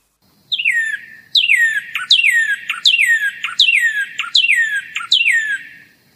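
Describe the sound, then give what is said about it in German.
A northern cardinal sings a series of about seven loud, clear slurred whistles, each sweeping steeply downward, repeated in a steady rhythm and heard alone with no talking. “Als nächstes Beispiel der Rotkardinal, da sieht dieses Spektrogramm so aus.”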